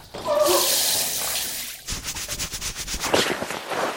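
Steady hissing spray of a shower running, shifting partway through into a choppier, splattering stream as the water hits something, with no voices.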